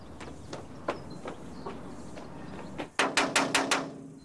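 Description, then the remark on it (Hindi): Knocking on a door: a handful of lighter, evenly spaced raps, then a loud, quick burst of about five hard knocks. No one speaks. “कौन है? दरवाजा खोलो।”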